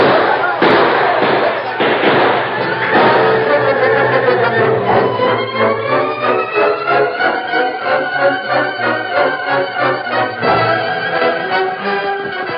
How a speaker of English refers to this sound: Make every shot count, Ben. Don't waste bullets.